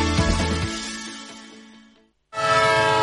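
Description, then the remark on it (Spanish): A loud, sustained horn of a departing train, with strong harmonic tones, fades away over about two seconds, then after a brief silence another horn blast sounds abruptly at full strength. “Un tren que se va.”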